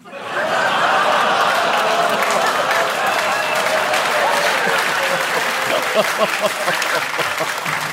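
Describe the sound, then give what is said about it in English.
A large audience claps loudly and steadily for several seconds, with drawn-out booing and a few scattered laughs mixed into the dense applause. “Oh, some people are clapping, some are booing, some are clapping and booing, which I admire.”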